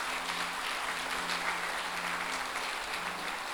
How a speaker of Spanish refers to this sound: Estos jóvenes, un fuerte aplauso para la hermana que llega ahí con su bebé.